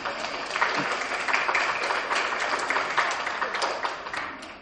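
An audience breaks into applause on Christmas Sunday for the winner of the Sunday school's ten-pin bowling, many hands clapping in a dense, steady patter that holds an even loudness for several seconds without anyone talking over it.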